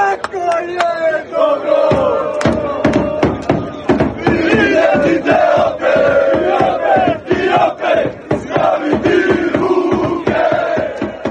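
A large crowd of Croatian football supporters chants and roars together outdoors in Rotterdam, Netherlands, on the day of the Nations League final against Spain, loud, with rhythmic shouted bursts and overlapping voices filling the whole stretch.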